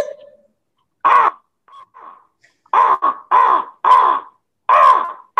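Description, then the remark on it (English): A person imitates a crow with a series of loud, harsh caws, about six rasping calls in an irregular rhythm with short pauses between, plus a few faint softer sounds. “The crow is one of my favorite animals to impersonate.”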